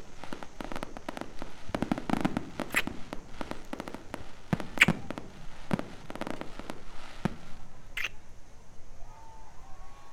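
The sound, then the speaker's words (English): Fireworks burst and crackle in a rapid, irregular series of sharp pops over a steady background rumble, continuing throughout with no one speaking. “I don't want to take you away from the fireworks.”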